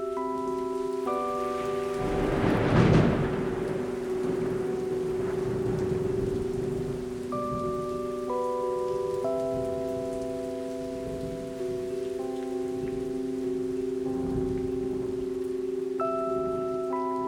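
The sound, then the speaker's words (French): Steady rain hisses continuously, with a brief louder swell early on, layered under soft, sustained musical chords that shift slowly throughout. No one speaks. “Moi, par contre, j'ai une fois essayé le bruit de la pluie, en fait, pour pouvoir dormir.”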